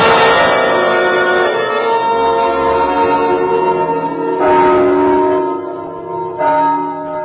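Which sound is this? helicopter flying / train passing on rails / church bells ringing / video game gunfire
church bells ringing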